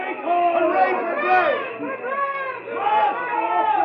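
A dense mass of male voices, hundreds of men coming toward the White House to protest a veto, shouts and clamors together in a continuous, loud roar of overlapping cries, with no single speaker standing out, like an agitated crowd pressing forward.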